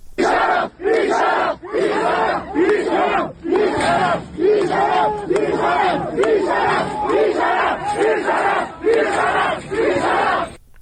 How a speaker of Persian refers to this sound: صدای این اعتراض‌ها و این درگیری رو میتونیم بشنویم.